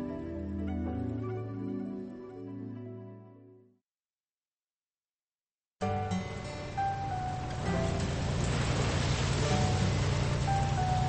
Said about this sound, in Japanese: スコールか。なんで雨が降るんですかね。本当に嫌ですね。